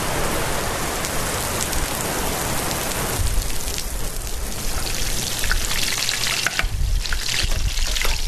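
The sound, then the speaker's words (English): Heavy rain from a driving rainstorm at daybreak pours down steadily in a dense, hissing wash, with pattering drops striking surfaces and a low rumble joining partway through. No voices are heard. “The group is greeted at daybreak with a driving rainstorm.”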